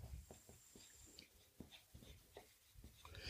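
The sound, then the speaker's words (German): A pen being put away: a quiet run of soft scrapes, rubs and light clicks, irregularly spaced, with no voices. “Na, es gibt dies, jetzt der Stift weg.”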